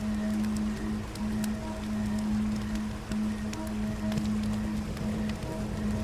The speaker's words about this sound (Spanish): y junto a ese sonido de la corriente que fluye constantemente, un alivio en tu interior aparece. Algo así como si el sonido del río fuese algo reparador.